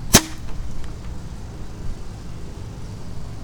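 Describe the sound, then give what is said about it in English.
A single sharp pop of a firework launching, followed by only faint low outdoor rumble and no bang afterward. “Oh, that one launched, but it didn't want to go bangs.”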